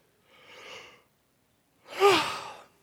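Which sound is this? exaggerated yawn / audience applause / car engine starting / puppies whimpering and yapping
exaggerated yawn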